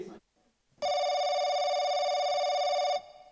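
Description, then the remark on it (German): A single loud, steady telephone ring, a bright buzzing tone that holds for about two seconds and then cuts off, with a short bit of voice just before it. “Zwei Freunde telefonieren heute miteinander.”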